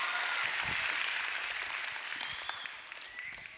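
A crowd claps steadily, a dense crackle of many hands that holds strong before gradually thinning toward the end, with a few isolated claps standing out.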